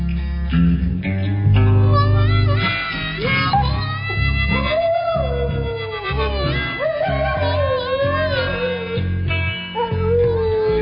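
A band singer's own dog howls and whimpers along to a slow, bluesy song, its long wavering howls rising over steady piano and bass throughout, loud in the mix.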